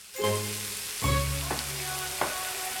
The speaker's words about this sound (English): takes out a huge roast turkey, sizzling and golden brown, and places it in its baking tray on the kitchen counter.